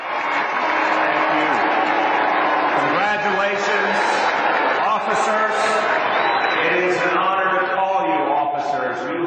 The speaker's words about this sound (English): Today was the NYPD Academy graduation, and New York Mayor Bill de Blasio spoke after some applause, some boos, and some catcalls.